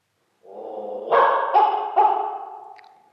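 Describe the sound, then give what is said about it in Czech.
A small dog lets out a quick run of three or so high, yappy barks that blend into a whiny, drawn-out tail, fairly loud with no voices around. “Domluva s pejskem.”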